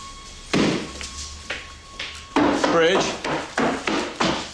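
A woman drops her bag to the floor by a front door with a heavy thud, followed by a run of sharp wooden knocks and bumps and a brief squeaky sound in the middle.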